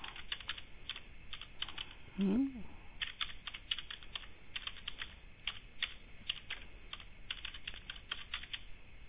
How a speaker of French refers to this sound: attendez, je finis de taper quelque chose et on regarde tout de suite.